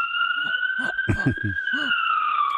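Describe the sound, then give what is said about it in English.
An ambulance siren, from an ambulance driving by a university in Bridgeport, holds a loud, steady high-pitched tone that rises slightly in pitch, sounding continuously while a person talks over it in short bursts. “I work at a university and ambulance are driving by.”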